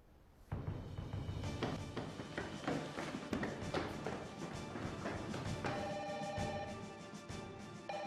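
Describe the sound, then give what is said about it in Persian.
A telephone rings steadily with a bright electronic tone as a police officer calls inside to negotiate. Tapping and dull thumps like movement mix in. The ringing starts abruptly and continues without any talking. “الان زنگ میزنم.”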